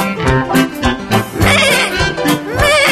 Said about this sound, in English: What is it? It's a goat.